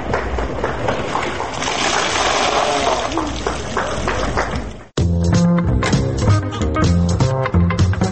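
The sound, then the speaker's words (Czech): A bucket of ice water is dumped over someone as part of the ice bucket challenge supporting people with Lou Gehrig's disease, a heavy, rushing splash and spatter lasting about five seconds before it cuts off abruptly and loud music begins. “I tad ga poliša.”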